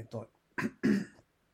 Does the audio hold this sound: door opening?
no